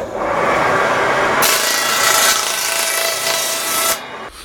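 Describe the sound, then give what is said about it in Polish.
A saw cuts through pine wood with a steady, harsh rasp that turns louder and brighter after the first second and a half, then drops away just before the end. No one speaks. “jakbym go puścił, żeby pan tu mógł nagrać zapach żywicy, to puszczę na piwę i będzie zapach żywicy z tego drzewa.”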